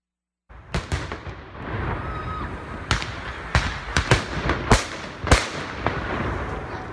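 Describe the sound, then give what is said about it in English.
Fireworks set off in celebration of Ramadan, exploding in an irregular string of sharp, loud bangs, roughly ten in a few seconds, over a steady crackling, rumbling backdrop of further bursts. “We're celebrating. Celebrating Ramadan. So, you know, just some fireworks.”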